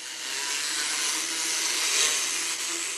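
A steady, high-pitched electric drill grinds continuously as a horse named Traveler has its teeth filed, a rasping whir with slight fluctuations in intensity and no voices.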